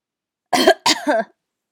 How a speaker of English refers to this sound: This is a tickle though, not like a hard like cough.